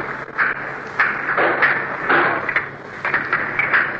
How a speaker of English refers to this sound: What you've just listened to, the hammering